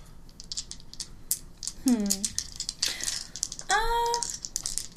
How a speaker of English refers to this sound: So why don't you make that roll 4 dice.